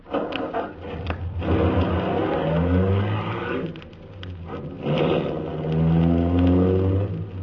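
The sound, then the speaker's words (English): The engine of an official MVD limousine cranks briefly as the starter is pressed, catches, and revs up loud, its pitch climbing in two strong surges as the car pulls away. No voices. “The ignition keys were there. I got in quickly, stepped on the starter.”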